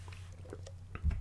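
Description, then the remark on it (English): A brief, soft slurping sip of lemonade, a few small wet squishy sounds ending in a louder gulp, over a steady low hum with no talking. “Okay, all right, I'm taking another sip.”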